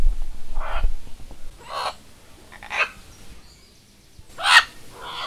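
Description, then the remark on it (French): Green-winged macaws give a series of harsh, raspy squawks, about five calls spaced irregularly over a few seconds, with the last one loudest and no talking. “Alors comme ce son a été capté à la fin de l'interview, j'ai imaginé moi de mon côté que c'était une sorte de au revoir de la part des haras chloroptères.”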